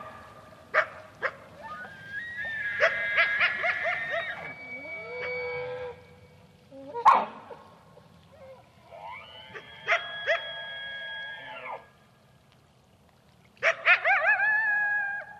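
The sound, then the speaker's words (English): Loud alarm barks from females threatened by a coyote ring out in several bursts, sharp single barks mixed with longer, wavering tonal calls, piercing, with short pauses between outbursts, no talking and no vehicle, aircraft or human noise. “Females saw the coyote, were so threatened or unsure about it, they started giving this really loud alarm bark, which I'd never heard of it.”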